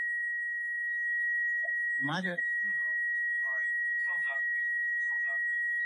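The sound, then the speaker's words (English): A steady, unbroken high-pitched electronic tone of cell phones and other phones ringing runs through the entire clip at an even level, while voices speak briefly over it. “Cell phones and the other phones are going”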